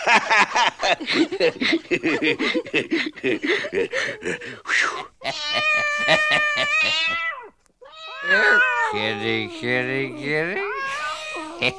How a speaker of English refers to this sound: kitty. Have a little old tot of rum with old Bill, eh? Come on now, be a nice little pussycat.